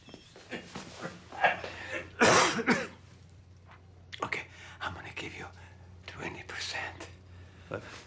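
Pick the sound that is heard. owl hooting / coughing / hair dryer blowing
coughing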